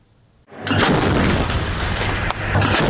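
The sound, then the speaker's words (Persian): Israeli army artillery fires at positions in southern Lebanon, responding to a rocket launched from southern Lebanon at northern Israel early Monday: a sudden, heavy blast erupts after a moment of quiet, its broad roar sustaining and rumbling, with a second concussive surge near the end. “توپخانه ارتش اسرائیل که مواضعی در جنوب لبنان را هدف قرار می‌دهد، در واکنش به پرتاب یک راکت از جنوب لبنان به شمال اسرائیل در بامداد دوشنبه، حادثه‌ای که هیچ گروهی مسئولیت آن را بر عهده نگرفته.”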